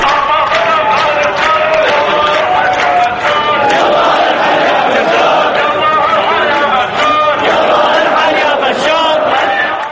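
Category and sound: crowd, protest crowd chanting slogans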